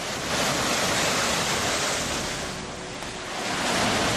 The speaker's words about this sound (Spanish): Un día después, y con toda la delicadeza, uno de ellos, el Tryguen, un enorme portacontenedores, se pone a socaire para amainar el embate de las olas.